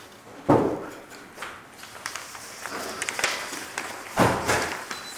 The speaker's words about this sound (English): I'm just going to close the door.